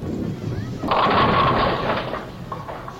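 A low rolling rumble of a bowling ball gives way to a sudden loud, clattering crash as it knocks over 9 pins, leaving 1 pin standing. The rattle lasts about a second, then fades into a noisy hum.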